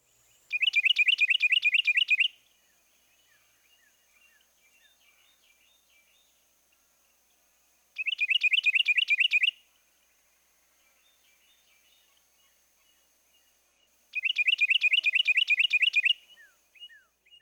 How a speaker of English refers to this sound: Now for a close comparison, here's a non-warbler species, the Carolina wren, with his own two-noted song.